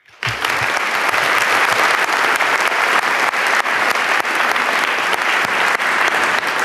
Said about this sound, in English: So give him a big warm round of applause.